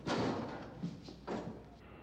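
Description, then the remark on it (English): Heavy car doors thud and clunk as they are loaded into a truck, with three dull impacts spaced about half a second apart and some scraping rumble between them. “Get the truck in here and get this back body section. These doors loaded.”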